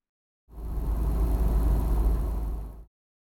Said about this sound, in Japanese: 私の座らされている椅子から小さな駆動音が流れて、目の前に金属製のアームが出てくる。